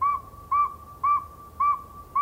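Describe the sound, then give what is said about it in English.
A northern saw-whet owl gives a steady series of clear, single-pitched whistled toots, about two per second, loud against a quiet night background. “This nighttime whistler's a northern saw-whet owl.”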